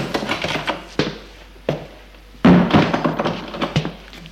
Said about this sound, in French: Lorsqu'il entend ouvrir la porte, il va vers lui.